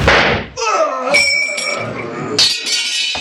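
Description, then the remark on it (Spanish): A sharp gunshot fired from a distance bursts out and knocks a sword to the floor, followed by a loud, ringing metallic clatter as it clangs several times, then settles into a fading metallic shimmer. “Pero cuando Jato cree que va a dar un golpe definitivo, un disparo a distancia le arroja el arma al suelo.”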